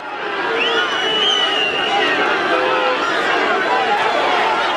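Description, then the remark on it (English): A large crowd in the streets of Donetsk, Ukraine, shouts and jeers at captured Ukrainian soldiers marched through by pro-Russian separatists, in a dense, continuous roar of angry overlapping voices, with occasional louder yells rising above the steady babble. “pro-Russian separatists, insurgents, Angela Stent said, marched, captured Ukrainian soldiers through the streets of Donetsk, which they control, where they were heckled, had beer bottles thrown, punched, spit upon by large crowds.”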